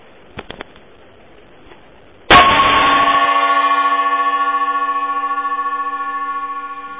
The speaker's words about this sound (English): We're a little bit later in the morning, so we could give that a real gong. Everybody in the house is awake, so I didn't have to do a kind of low-level gong.